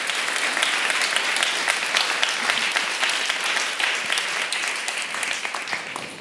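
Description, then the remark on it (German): An audience applauds four speakers steadily, a dense patter of many hands clapping at an even, sustained loudness for several seconds with no voices on top. “Ich würde Sie um einen großen Applaus für die vier Speaker und Speakerinnen bitten.”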